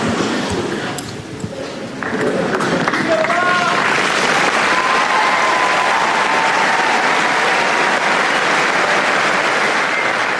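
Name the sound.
crowd applauding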